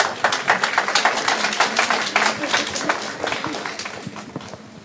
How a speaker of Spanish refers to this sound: Un aplauso para él.